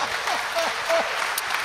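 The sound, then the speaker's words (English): Audience applause greeting a comedian, a dense, steady patter of many hands clapping at moderate loudness for a couple of seconds, with faint voices mixed into the crowd noise. “By that applause, it sounds like I'm going to be the first to go.”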